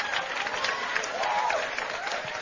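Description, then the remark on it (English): A crowd applauds steadily, a dense wash of many hands clapping at once, moderately loud and continuous for a couple of seconds with no voices on top. “Clap. Clap.”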